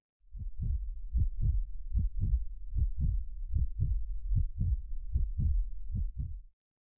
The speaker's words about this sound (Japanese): ほら、だってご主人様と一緒にいるだけでドキドキしちゃってるんです。ほら、聞いてください。